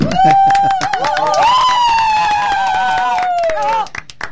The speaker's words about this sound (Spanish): Fuertes aplausos.